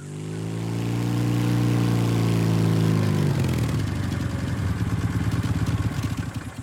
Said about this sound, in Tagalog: Mabuti na lang at hinintuan kami ng isang tricycle driver at ito ang naghatid sa amin pauwi sa bahay.